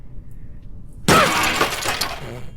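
After a quiet second, a table breaks with a sudden, loud shattering crash that rattles and splinters on for over a second before fading out. No one speaks.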